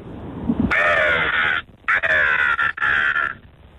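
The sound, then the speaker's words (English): A caller imitates a seagull with three loud, harsh squawking calls in quick succession, the first drawn out and the last two shorter with a brief break between them. “Seagull? Yeah.”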